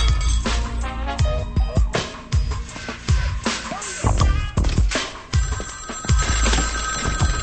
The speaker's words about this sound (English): Craig looks into his house at the ringing phone, across the street at the Parkers, then at the open window next door.